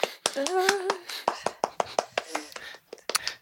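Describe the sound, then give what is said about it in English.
Scattered, light handclaps from a small group, a dozen or so irregular sharp claps at moderate volume, with brief murmuring voices mixed in near the start and middle. “Clapping's polite.”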